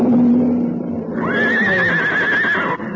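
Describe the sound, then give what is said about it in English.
A horse neighs loudly, a long shrill whinny with a wavering, quavering pitch that rises and then trails off over a few seconds, with a low rumbling background beneath it; the horse is being hunted by a lion. “No time to use the rifle. Get the horse away.”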